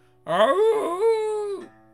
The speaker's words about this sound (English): Sounded like a coyote.